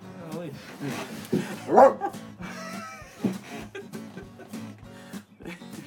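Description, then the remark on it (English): A dog barks and yips in several short bursts, a few louder ones standing out, while people talk in the background throughout. “Bark, you gotta bark.”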